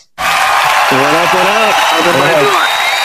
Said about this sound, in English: Ladies and gentlemen, let's give a big round of applause for the best Clint, Mr. Clint Mathis.